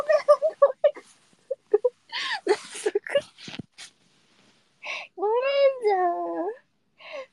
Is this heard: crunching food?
no